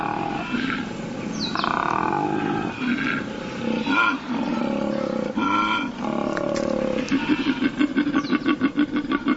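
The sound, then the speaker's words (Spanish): A male koala's deep, bellowing mating roar from a treetop, loud, rising and falling in a series of rasping calls that end in rapid, throbbing pulses. No one speaks. “La fuerza de su rugido indica su tamaño. A pesar de ser un poco más grande que un mapache, su profundo rugido rivaliza con el de un elefante.”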